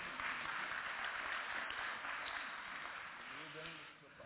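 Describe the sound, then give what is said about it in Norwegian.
An audience claps steadily as two people come up to the front: a dense, even wash of many hands that tapers off slightly toward the end, with a few voices murmuring underneath. “Ja, det er lov å klappe de på vei opp, altså.”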